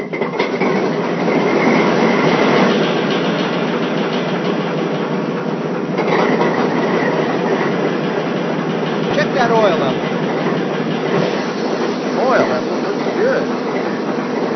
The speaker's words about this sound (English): I'll bring my train to a stop and have my conductor located.